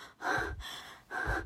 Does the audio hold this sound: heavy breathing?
yes